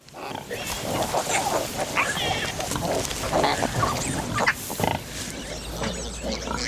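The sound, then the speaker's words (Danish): Pigs grunting and snuffling, a busy, continuous stream of low grunts and higher squeaky calls over a rustling farmyard background, with no clear speech, from Viktor Kosakowski's black-and-white documentary film Gunda about a pig. “Gunda er en film om en gris.”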